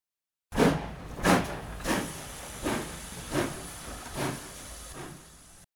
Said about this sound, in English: Father, is that a monster? It's a train, my boy. George Stephenson built the train's engine and the railway. Now, he's driving the train.